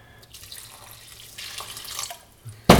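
Water, part of 350 ml added to dough made with olive oil, pours steadily into a mixing bowl, a broad splashing hiss that swells toward the end before a louder, sharper splash or clatter at the finish. No voices.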